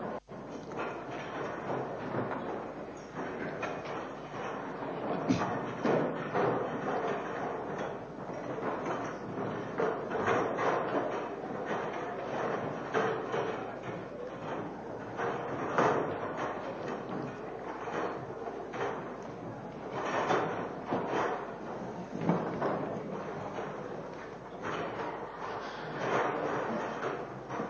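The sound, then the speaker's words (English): Chairs being stacked: a steady stream of knocks, clacks and scrapes, moderately loud, continuing without pause for nearly half a minute with no clear talking. “But we'll stack the chairs.”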